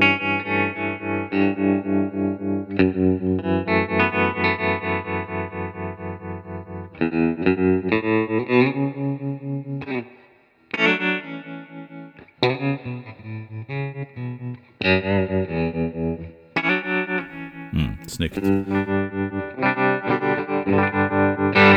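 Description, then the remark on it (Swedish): A guitar played through a Warm Audio Ringer Bringer ring modulator pedal, giving metallic, clangy, bell-like tones with dense inharmonic overtones; chords and melodic phrases ring out loudly, with brief pauses and a sharp sweeping squeal near the end. “För er som, så fort ni ser något som heter ringmodulator och säger nej, det är inte, ingenting för mig, testa den här, för att ni hör ju själva, den låter fantastiskt bra tycker jag.”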